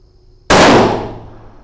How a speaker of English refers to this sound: He stapled paper targets up at 25 and 50 yards before ringing the bell a second time. Then he set up the first shot, sat down next to the rifle, and fired.